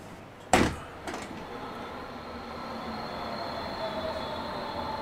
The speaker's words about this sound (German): Die U2 nach Niendorf Nord rollt ein.